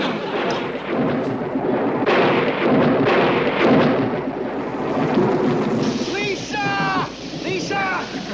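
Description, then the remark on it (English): Heavy, steady rain pours throughout while loud rolls of thunder rumble and crash, with some brief chirping, warbling tones near the end. “Chanting and dancing, it started to rain.”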